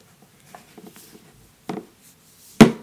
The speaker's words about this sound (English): So if you have the phone unlocked and you want to go ahead and lock the screen, you can just fold the phone. It does have a nice little click sound to it when it's folded. So I'm going to unfold it and then fold it.